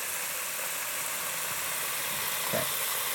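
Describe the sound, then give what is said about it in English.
Fish frying in hot oil in a fryer gives off a steady sizzle, a constant bright hiss broken by a couple of soft pops and bubbles, with no voices. “Ooh, I love to hear that fish frying.”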